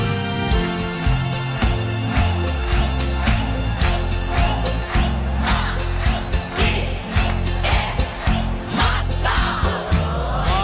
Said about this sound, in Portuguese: Alegria, minha gente! Quero ouvir só as palmas agora!